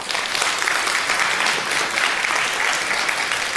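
Sustained audience applause, a dense wash of many hands clapping at a steady, fairly loud level throughout, with no voices standing out.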